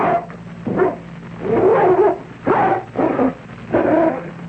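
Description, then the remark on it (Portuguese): A dog named Minoro barks and growls in short, rough bursts while eating a piece of meat, about five vocal outbursts with brief pauses between them, fairly loud against a low background hum. “Tá, ele faz tudo misturado. Late, come tudo.”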